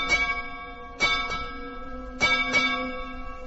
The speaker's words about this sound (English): And not only that, my father is at sea, a ship's bell.